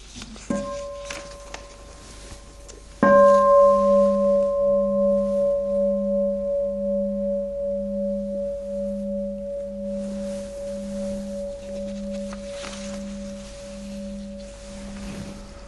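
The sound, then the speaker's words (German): A meditation bell is struck once with a bright, loud onset, then its steady tone hums on with a slow pulsing wobble, lingering and gradually fading over the following seconds. “Aber vorher hören wir noch einmal eine Glocke.”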